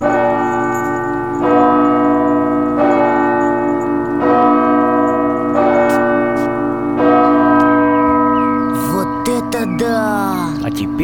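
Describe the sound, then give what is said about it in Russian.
Two large bass church bells, rung by a bell-ringer pressing pedals with the right foot, toll in a steady, slow rhythm, about six strikes roughly every second and a half over a deep sustained hum, with brief voices near the end. “На них, на эти педали, звонарь нажимает правой ногой.”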